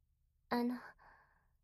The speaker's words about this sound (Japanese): 割と真面目なお話をしていたつもりだったのですが、あくびしちゃうんですね。